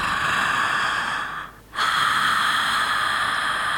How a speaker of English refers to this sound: Right. So you can start hearing why it's called snoring breath.